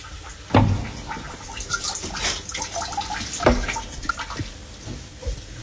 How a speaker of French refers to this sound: Qu'est-ce qu'on entend ? Là, les colonnes d'eau, on entend aussi.